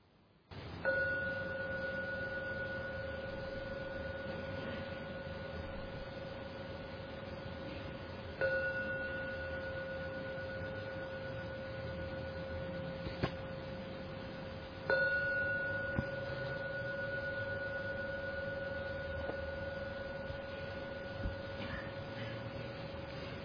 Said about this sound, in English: Please, I invite you, if you can, to keep your eyes closed and wait for the 3rd ringing of the gong, and let that open your eyes and take you out from the meditation at the 3rd ringing of the gong.